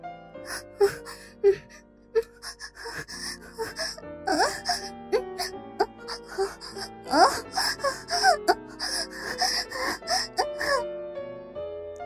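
A woman's voice moans and pants in a steady series of breathy, wavering sighs and gasps, fairly soft, rising and falling without any spoken words.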